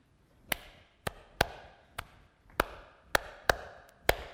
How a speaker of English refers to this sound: I will clap 2 measures and then start in.